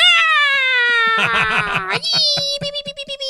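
A purported Jersey Devil shriek: a loud, piercing, high-pitched wail that slowly slides downward, breaking midway into rough, pulsing yowls, then trailing off in shaky, stuttering bursts. No talking.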